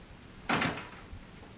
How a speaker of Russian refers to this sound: Утирая слезы, Вера пошла открывать дверь.